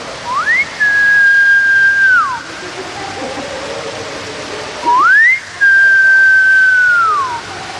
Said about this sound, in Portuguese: Se eu pedir ao … só para dar assim um assobiozinho, é possível?